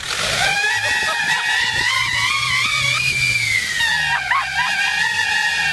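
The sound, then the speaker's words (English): A shrill, wavering whistle screeches continuously from a novelty noisemaker in a car's exhaust over a low engine rumble on a windy day, loud, its pitch sliding up and down before briefly dipping and resuming. “And remember, if your car makes that sound and you don't have silly noisemakers in the exhaust, take it to the shop.”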